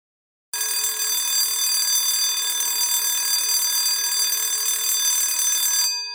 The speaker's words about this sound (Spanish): Suena el despertador de Sofía.